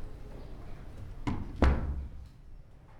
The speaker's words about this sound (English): First, let me just close the door and lock it. We don't want any interruptions now.